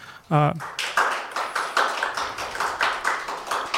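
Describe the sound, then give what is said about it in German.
A short vocal sound opens, then an audience breaks into steady, dense applause after a talk: many hands clapping together in a continuous, crackling patter that holds at an even, fairly loud level. “Danke auf jeden Fall schon mal für den Talk und dann nochmal einen Applaus aus der Runde.”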